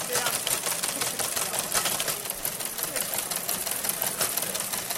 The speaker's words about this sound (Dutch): Es ist eigentlich ein alter Fernschreiber, den wir jetzt hier angekoppelt haben, dass man da SMS hinschicken kann und der druckt die dann aus.